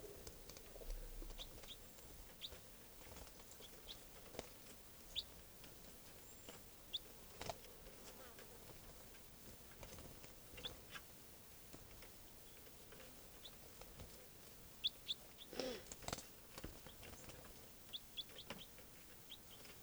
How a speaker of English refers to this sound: And it just flew up to us. Tree branch, and it's a juvenile bird. And that's 305 chittering there. That was a wild bird flying.